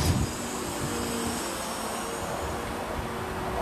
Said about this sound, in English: The sound of the crane extending its boom.